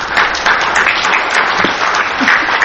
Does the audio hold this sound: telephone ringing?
no